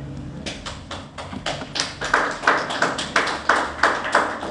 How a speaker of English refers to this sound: I never get clapped for at the end of a message, unless you're clapping that it's over.